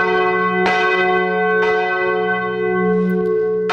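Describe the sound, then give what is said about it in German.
Large cathedral church bells, set in motion, ring loudly and continuously, with a rich, sustained hum and distinct clanging strikes at a slow, uneven rhythm, with no voices. “Und auch nach 12 Jahren als Glockensachverständiger, wenn die Glocken sich in Bewegung setzen, ist das für Andreas Reinhardt noch immer faszinierend.”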